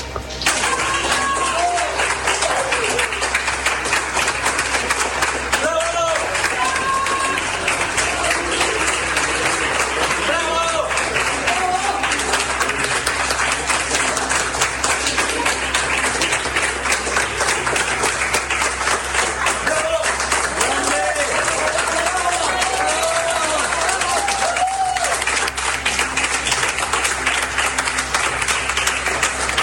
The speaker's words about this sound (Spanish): Vamos a escuchar el ruido ambiente del momento en que Paulina Muñoz, ex delegada regional, salió de las oficinas siendo ampliamente aplaudida por quienes trabajaron con ella en el gabinete regional.